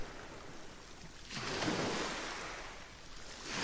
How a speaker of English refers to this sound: You're quite close to the sea because you can hear it.